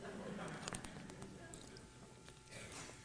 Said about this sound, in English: And at this point, I will take a dramatic pause to drink my water.